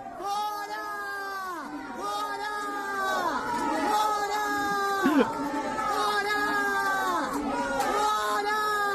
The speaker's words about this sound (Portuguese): você vai ver pela linguagem corporal das pessoas, fazendo joinha para baixo, se dando dislike e tal, que tinha bastante gente, sim, vaiando o mito na churrascaria.